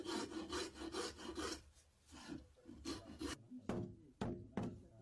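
Steady rasping strokes rub back and forth over the wood of a horse saddle being hand-polished, in a quick rhythm, then pause and resume before a few sharp, hard taps ring out near the end.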